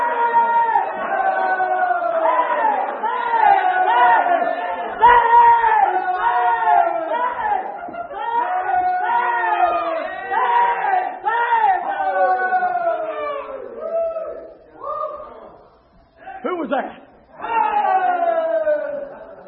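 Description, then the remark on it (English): An audience at an old shouting Baptist camp meeting, broadcast on radio and the internet, shouts and calls out together in loud, overlapping voices, a steady excited roar of many people that briefly dips and breaks up near the end before surging again. “Ladies and gentlemen, those of you listening, by the way, of radio or via internet, we're having an old shouting Baptist camp meeting in here today.”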